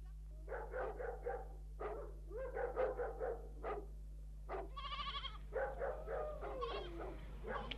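A flock of sheep bleats in a steady run of short, wavering cries, several voices overlapping, with a low constant hum underneath and no talking.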